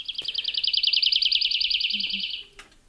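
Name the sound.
lark song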